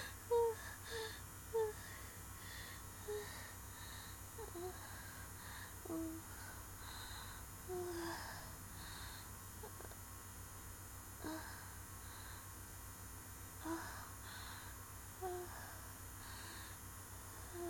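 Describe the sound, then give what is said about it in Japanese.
Heavy breathing and gasping, with short, soft breathy bursts arriving irregularly over a low steady hum. The sound is quiet, and no one speaks. “吐息がエロい。”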